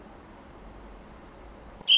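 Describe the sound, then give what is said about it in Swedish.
In a sports hall in Lund, Sweden, a single sharp, shrill starting whistle for a sprinter in the starting blocks, 60 metres away, cuts in loudly at the very end, following a couple of seconds of quiet, low indoor room noise. “Andra visslingen reser han sig upp och så startar han.”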